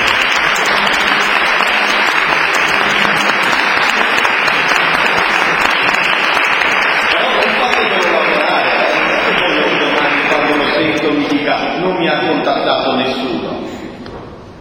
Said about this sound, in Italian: E diamo un applauso.